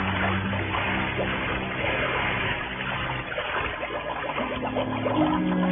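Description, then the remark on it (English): A splash as a scuba diver wearing an air tank, mask and flippers goes over the side of a boat into the water by a coral outcropping, followed by steady churning underwater bubbling and gurgling that fills the whole stretch, fairly loud with no voices. “And then I went on over the side.”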